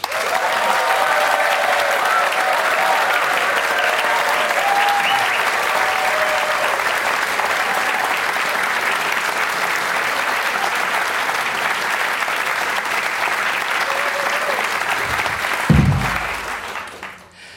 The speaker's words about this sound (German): Und hier ist de Applaus.